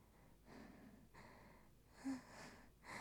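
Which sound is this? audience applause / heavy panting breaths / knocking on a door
heavy panting breaths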